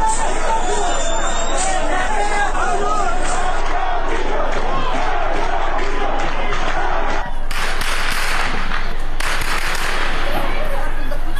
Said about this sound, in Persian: از سوی دیگر تصاویر دریافتی از مهاباد در روز گذشته نشان می‌دهد که با تجمع تظاهرکنندگان در مقابل فرمانداری شهر با تیراندازی شدید و ممتد ماموران به سمت معترضان مواجه شده است.